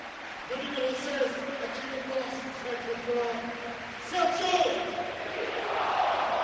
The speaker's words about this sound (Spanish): Muy bien, bonito detalle. Todo el estadio unánime aplaudiendo a Sergio Rico cuando corean su nombre. Es el único de los suplentes que de momento han coreado.